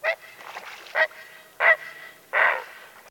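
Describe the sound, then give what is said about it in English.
A great blue heron gives a series of harsh, guttural croaks, four rough bursts at uneven intervals with a raspy tone, alone with no talking. “Great blue herons are the only heron or egret that winter on the Cape. You might hear this guttural cry if one flies over the marsh.”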